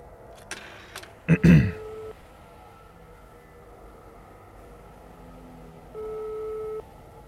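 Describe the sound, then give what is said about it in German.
A few sharp clicks and a clunk, like a handset being picked up and a number dialled, then a quiet pause before a single steady ringing tone sounds on the line. “Und jetzt kommt der zweite Anruf.”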